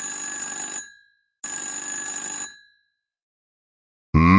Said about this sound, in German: Gerade als er die Kaffeemaschine in Gang setzt, läutet das Telefon.